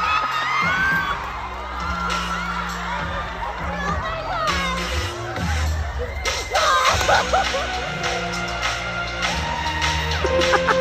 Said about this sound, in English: And then, like, people are screaming every time a new member comes on screen. Yeah. And then the girl in front of me is just going, oh, my God. Oh, my God. Like, you can just hear it.